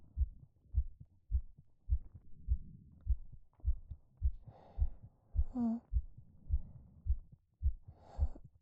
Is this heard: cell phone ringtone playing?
no